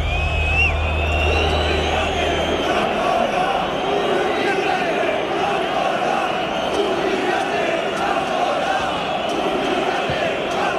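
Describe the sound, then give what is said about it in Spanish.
Football fans in the Herria Armaya stand area shout as the rojiblanco players approach to thank them, a dense roar of many voices with scattered louder cries rising above it, continuing without pause and with a low hum during the first seconds. “Y en ese momento se escucharon algunos gritos, yo creo que bastantes pocos, aislados en esa zona.”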